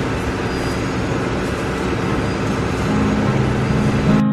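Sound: subway station ambience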